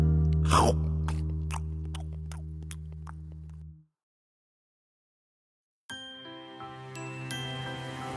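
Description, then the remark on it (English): A quick chomp of biting into a banana, followed by a handful of soft, evenly spaced chewing crunches over a bright musical backing that cuts out briefly before resuming. “Now peel your bananas and take a bite.”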